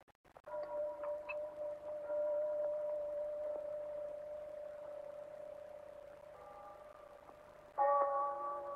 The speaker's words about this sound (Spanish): Escucha las lejanas campanadas del reloj de la iglesia.